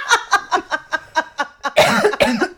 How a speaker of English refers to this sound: Bitch is coughing. My bad. Sorry, it was funny.